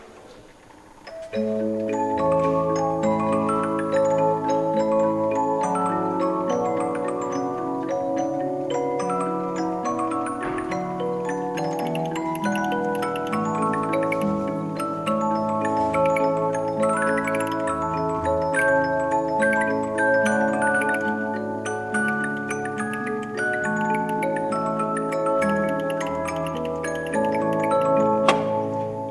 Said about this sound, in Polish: Szybko pada odpowiedź, przecież to polonez, ale ktoś po chwili poprawia, no gdzie, to jest walc. I rzeczywiście to jest walc.